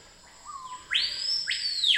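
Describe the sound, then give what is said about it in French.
A clear bird song of rising, sweeping whistled notes sings over a steady, high insect drone that hums continuously underneath. No one speaks. “Alors là, on passe à un oiseau.”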